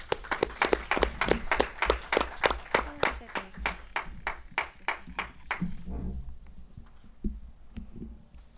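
An audience applauds with loud, steady, evenly paced claps that carry for several seconds, then thin out and fade into faint murmuring and a few scattered claps.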